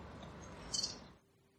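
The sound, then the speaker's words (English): A quick run of three high, bright chirps like a bird singing, rising briefly above a steady background hiss before everything drops to near silence. “Beautifully read with the birds as well.”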